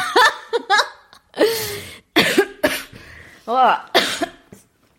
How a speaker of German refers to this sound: Ja, du hustest, ich huste, du rülpst. Das war jetzt eine Ablenkung.